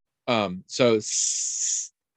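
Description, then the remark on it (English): A voice makes two short voiced syllables, then a steady hiss lasting about a second, an imitation of a snake's hiss. “I think we can go for snake.”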